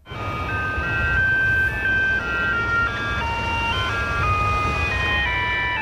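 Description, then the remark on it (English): A Dunedin-based Mr. Whippy ice cream van in Mosgiel, New Zealand, plays its electronic jingle, a bright, stepping melody of steady notes, loud, over a constant low rumble of engine and road noise, with no one speaking. “My very first day, I was very intimidated, but I played the music.”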